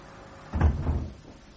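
A door is pushed shut with a soft, low thud and a brief rattle of the latch settling, then quiet. No one speaks.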